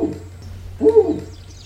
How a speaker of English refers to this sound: Woo. Did you guys hear that? The owl. That was the owl. He wants to come out. He's been talking a lot today.